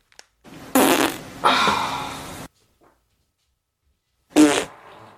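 A loud fart stretches out for nearly two seconds in a couple of sputtering bursts, then after a pause a second shorter, wet-sounding fart follows. No one speaks.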